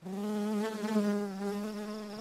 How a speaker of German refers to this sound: Ja, jetzt brummt es hier nochmal schön, aber das ist ziemlich ungefährlich, klingt nach einem dicken, fetten Brummer, aber um den geht's heute gar nicht.